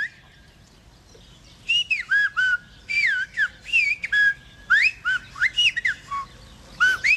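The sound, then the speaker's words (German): Loud, clear human whistles in a quick series of gliding, rising and falling tones, phrased like speech, with short pauses between bursts after a quiet start; an exchange in Silbo Gomero, the whistled language of the Canary Islands, with no spoken words. “es ist schon etwas ganz Eigenes, das El Silbo”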